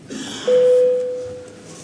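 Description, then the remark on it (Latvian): A parliamentary voting bell sounds once, called to open a vote on a bill amending the higher education law in its second and final reading. It is a steady, pure electronic tone, loud at first and then fading over about a second, against faint background noise with no talking. “lūdzu zvanu.”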